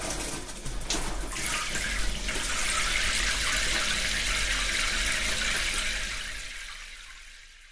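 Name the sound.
shower running water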